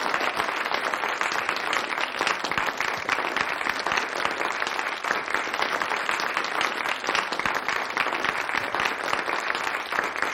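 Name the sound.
audience applauding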